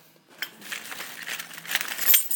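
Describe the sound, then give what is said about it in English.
A bunch of keys jingles and rattles as it is handled while someone looks for a door key, with a quick run of bright metallic clinks over a couple of seconds. No one speaks. “Let me get these keys here. Sorry about that. Just getting my key.”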